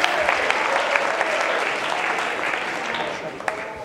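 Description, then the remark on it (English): An audience claps their hands in a steady, dense wash of applause that holds fairly loud throughout, with a few sharper claps standing out near the end. “Come on, clap your hands right now and say, God, help me to move past shallow faith.”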